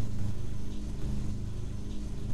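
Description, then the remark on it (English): A steady, low mechanical drone of a lawnmower engine hums continuously in the background, heard from inside a house used as a makeshift recording studio, moderately loud and unchanging, with no voices present. “I record this show at a makeshift studio in my house, which explains the lawnmower in the background.”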